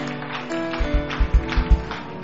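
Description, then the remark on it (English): An audience claps in a handful of rhythmic, fairly loud beats lasting about a second, over a steady sustained instrumental tone. They are clapping in answer to a preacher's call to clap if they believe. “Clap your two hands if you believe that.”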